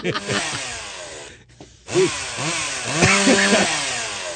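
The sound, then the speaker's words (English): A chainsaw engine revs loudly, its whining pitch surging and dropping in repeated bursts, cutting out briefly before roaring back to full throttle. “I'm going to buy a million chainsaws and chainsaw every rainforest.”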